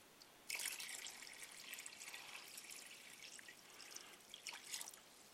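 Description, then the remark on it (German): A little water pours steadily into a glass to be added to the liquid already in it, for several seconds, a bright splashing trickle that starts abruptly and keeps a fairly even flow with small surges near the end. “Aber machen wir mal ein bisschen Wasser dazu.”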